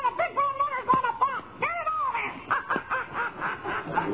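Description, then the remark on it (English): A bird squawks and chatters in a rapid run of shrill, warbling cries for several seconds, fairly loud on a muffled, old-sounding recording. “Fresh bird that is.”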